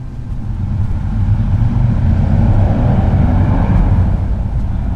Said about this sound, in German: In dem Moment fährt vor dem Haus ein sehr lautes Motorrad vorbei.